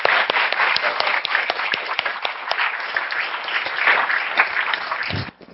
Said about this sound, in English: Thanks very much. I think he deserves a round of applause, don't you?